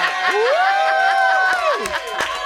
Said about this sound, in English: Coming in hot, Angela Hart, everybody. Thank you. Come on. control room round of applause for the one, the only, Dame Angela Hartnett.